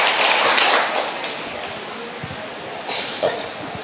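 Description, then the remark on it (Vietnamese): A church audience claps together to welcome the children, in a dense, steady burst of applause that stays fairly loud and fades slightly toward the end, with no one speaking over it. “Rồi, một tràng pháo tay để chúng ta chào các em.”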